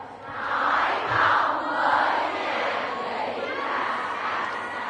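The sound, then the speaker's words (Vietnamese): A group of children shouts together on a count of one, two, three in a loud, sustained burst, chanting in unison for several seconds with a broad, echoing roar. “Các cháu hãy nói thật lớn: 1, 2, 3.”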